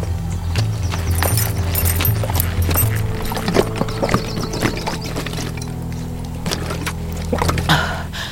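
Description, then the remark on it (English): Horse hooves clip-clop in a steady, irregular series of sharp knocks over a low, constant rumble as the horse is brought to a halt, moderately loud, with no talking. “After a few more minutes, still able to safely keep watch in all directions, Anya brought the horse to a halt.”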